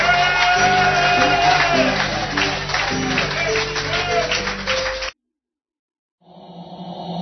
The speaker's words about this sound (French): Vous êtes bénis, vous pouvez acclamer le Seigneur. Car il est merveilleux, vous pouvez pousser les cris de joie pour la gloire de Dieu.